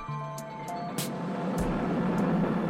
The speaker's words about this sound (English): Down the only complete Georgian street, Marshall Street, comes the intense traffic down to the harbour quaysides.